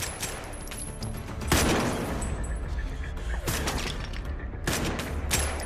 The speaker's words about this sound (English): He stops behind a metal pillar. Baxter empties his magazine.